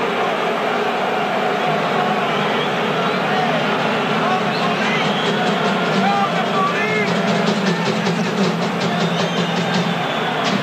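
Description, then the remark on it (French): A large baseball stadium crowd roars in a steady, dense wash of cheering and shouting, with sharper claps and shrill whistles joining in during the second half, reacting as Tom Lasorda comes out and Youppi flops down on the Dodgers' dugout. “Oh, écoutez la réaction de la foule.”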